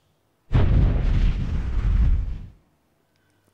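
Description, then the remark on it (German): A single loud, deep volcanic explosion bursts in abruptly and rumbles on for about two seconds with heavy low-end roar before fading away, no voices present; it hurls diamonds, carried by a magma bubble from the lower mantle through the Earth's crust, upward. “In der Animation sehen wir jetzt, wie die Diamanten von einer Magmablase aus dem unteren Erdmantel mitgenommen durch die Erdkruste transportiert und schließlich in einer vulkanischen Explosion nach oben geschleudert werden.”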